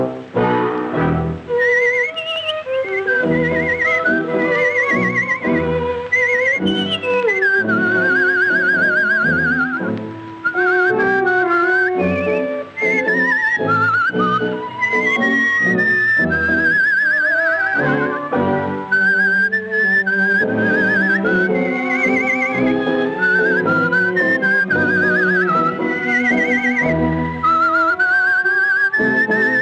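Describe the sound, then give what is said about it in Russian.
A high, bright whistled melody with warbling trills imitating nightingale song, performed from a decorative cage under the dome of a concert hall, over a steady accompaniment from an orchestra seated below. Continuous and fairly loud throughout, with no speech. “сидела в этой клетке под куполом концертного зала и изображала трели соловья, это очень красивая танго, а внизу сидел оркестр, который ей аккомпанировал.”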